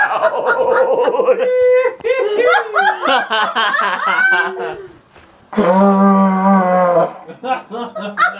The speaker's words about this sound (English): Don't laugh into the vuvuzela. The soccer game is going now. Don't do that. That is not reverent to South African soccer.